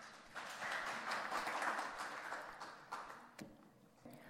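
A crowd applauds, a dense steady patter of many hands clapping that swells briefly and then thins out, with a few last scattered claps at the end.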